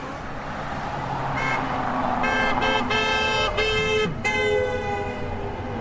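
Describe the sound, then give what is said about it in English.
A Tesla driver's car horn honks at a protest in a series of loud, blaring blasts, several in quick succession with short gaps, over the steady rumble of passing traffic. “I was a Tesla driver who just honked at us.”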